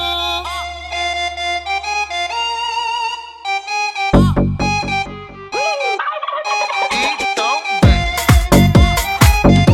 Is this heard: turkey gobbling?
yes